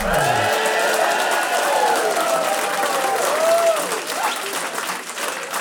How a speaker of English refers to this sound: Thank you for that spiffing round of applause.